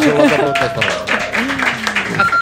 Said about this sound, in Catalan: Un aplaudiment pel Peyu.